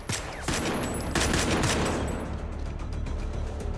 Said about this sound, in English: Frank drops a magazine and reloads. Baxter shoots at Frank. Frank returns fire.